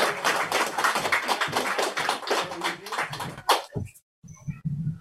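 A crowd applauds in a dense, steady wash of clapping for about three and a half seconds, then it cuts off abruptly, leaving a brief silence and a few faint, scattered noises.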